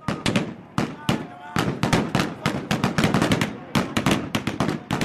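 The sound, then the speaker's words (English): Loud, rapid bursts of gunfire as Sudanese soldiers break through barricades at a sit-in outside military headquarters on a Monday, crackling in irregular volleys, dozens of sharp shots packed together over several seconds, with shouting voices faintly mixed in beneath the shots. “So members of the Sudanese security forces shot and killed six people on Monday”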